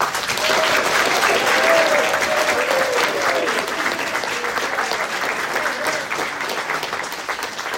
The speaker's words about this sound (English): Just to save a little bit of time, if we can keep our clapping between each question, just so we can get through as many as we can.